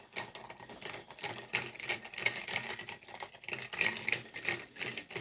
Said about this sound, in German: Liebe Hörer, dieses Geräusch hört gleich auf. Ich habe diesen Drink gleich totgerührt. Ja, der Drink hört gleich auf zu schreien.